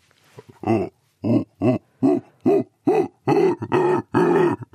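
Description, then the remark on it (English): A researcher of primate vocal communication voices a howler monkey impression: a series of about ten deep, rough grunting calls in a steady rhythm, growing longer and louder toward the end, with no talk. “Can you do an impression? I can do a howler monkey for you.”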